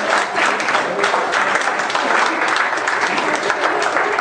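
An audience claps steadily, a dense, sustained wash of many hands with no pauses, loud and even throughout.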